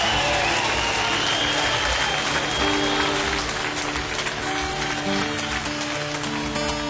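Loud, sustained concert audience applause for keyboard player Gunnar Frick from Gothenburg, Sweden, a dense crackle of clapping hands with a steady roar underneath and no break in the noise.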